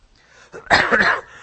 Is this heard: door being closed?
no